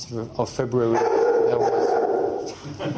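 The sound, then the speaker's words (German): A dog barks at a press event with Croatia's foreign minister: a few short, sharp yelps followed by a longer, drawn-out vocal cry that wavers before fading, fairly loud and prominent. “Ein Video macht die Runde vom Pressetermin mit Kroatiens Außenminister, wo ein Hund seinen Auftritt hat.”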